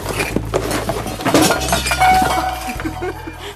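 Pots and dishes clatter as they're shifted around in a kitchen to make room, a string of irregular metallic clinks and knocks, fairly loud, over a low steady hum.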